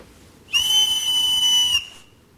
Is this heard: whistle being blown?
yes